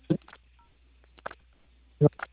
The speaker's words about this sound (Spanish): Sí, ahora sí, sino que estaba escuchando como un teléfono que le estaban escribiendo.